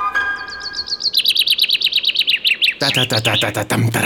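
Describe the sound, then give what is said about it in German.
A common chaffinch song: a bright, rapid series of descending chirps accelerating into a trill, followed by a lower, buzzier voice mimicking the bird's phrase. “So klingt ja eigentlich. Naja, ich bin halt kein Buchfink, ich kann es nicht so gut.”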